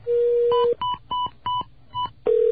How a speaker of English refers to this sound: Okay, so, forgive these little beeps and buzzes that you're about to hear, but I'm now transferring the call.